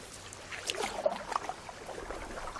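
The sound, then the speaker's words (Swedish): Wooden canoes paddle toward the shore, with soft splashes and water sloshing against the hulls in an uneven rhythm, gentle, with no voices. “De kommer paddlande mot stranden i sina kanoter av trä.”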